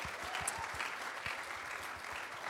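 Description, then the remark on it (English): Sustained audience applause for the group's leaders, a dense wash of many hands clapping steadily at a moderate level throughout, with no voices standing out. “Why don't we give our amazing leaders a round of applause?”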